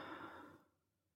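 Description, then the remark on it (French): A single soft, airy breath drawn in, lasting about half a second before trailing off into near silence, as part of a slow abdominal breathing exercise. No talking. “On va d'abord inspirer pendant 2-3 secondes.”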